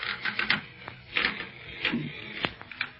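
A bed creaks and clicks with irregular wooden ticks and short squeaky strains, several sharp snaps among them, at moderate loudness with no voices.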